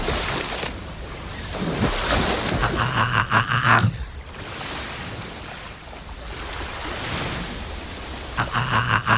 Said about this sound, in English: Tail slapping is a method dolphins often use to stun their prey. But it doesn't seem to work here.